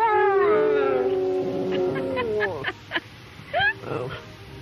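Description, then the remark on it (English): Lyndon Johnson's dog lets out a long, wavering howl with a rising and falling pitch, like an attempt at singing, then trails off into a few short yips and grunts. “This was a man who could get his dog to sing.”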